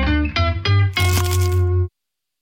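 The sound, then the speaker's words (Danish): A loud crunch of teeth biting into a McDonald's McCrispy crispy chicken burger, in an attempt at a silent bite, with a few sharp crackling bursts in quick succession, then silence. “Det her var et forsøg på at tage en lydløs bid af den nye knasende kyllingeburger McCrispy. Desværre fejlede det.”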